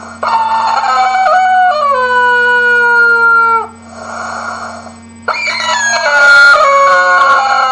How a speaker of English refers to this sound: Right, this is widely regarded as the most annoying toy ever for a small child. It's a squeezy chicken that makes noises, and basically what you do is you kind of choke this chicken, and when you let go, it makes this noise.